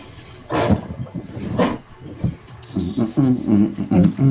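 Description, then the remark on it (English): A voice imitates a character growling back while being grappled in a game: two rough, breathy bursts followed by a longer, lower, rasping snarl that rises and falls, fairly loud with no other sounds. “She's going to growl back, you're not the only one with increased strength.”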